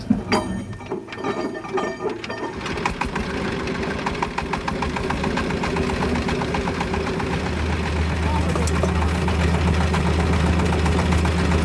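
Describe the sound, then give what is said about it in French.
An old engine, started with a hand crank, coughs through a few uneven turns. It then catches and settles into a loud, steady chugging idle with a rapid knocking rhythm and a deep rumble, running to the end in a thick cloud of smoke. “Et voilà, ça y est, la machine tourne dans un nuage de fumée absolument étouffant.”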